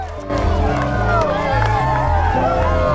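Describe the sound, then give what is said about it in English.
A large crowd gathered outside a house murmurs and chatters continuously as it parts to let a car drive up, many overlapping voices forming a loud, steady hubbub with occasional raised shouts, for a few seconds. “The crowd parts to let Brody drive up to his house.”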